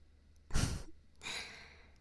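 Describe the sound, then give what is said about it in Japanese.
A strong puff of hot breath is blown into the listener's ear, gusting right against the microphone, followed by a softer, longer airy exhale. No one speaks. “だから、熱い吐息を感じたり、ささやかれると、気分がいいだろう。”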